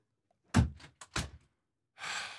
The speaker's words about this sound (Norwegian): Lukk igjen døra der, altså.